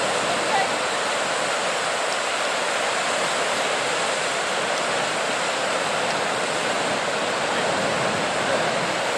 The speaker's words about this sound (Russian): Песочек красивый, и там дальше открывается такой простор, широченный пляж. Смотрите, как здорово, волны. Здесь на самом деле такое ощущение, что ветра больше, так валы накатывают.